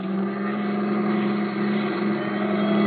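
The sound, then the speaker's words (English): A milk truck engine drones loudly and steadily, a continuous low rumble with a throaty mid-range hum that holds an even pitch throughout, with no voices. “He'll squeal and cops will spot this milk truck a mile away.”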